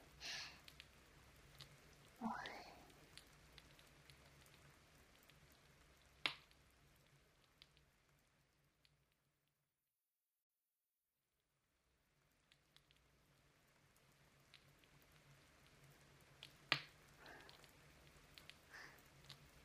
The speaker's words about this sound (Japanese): 落ち着きますね。雨はより外出が面倒になりますが、この音は嫌いではありません。雑踏の音も雨音に溶けていくようで、